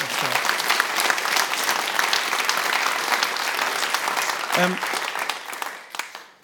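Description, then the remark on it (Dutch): A crowd claps steadily in sustained, dense applause for several seconds, with a brief vocal burst partway through, before the clapping thins and fades out at the end. “Geef hem nog even een applaus.”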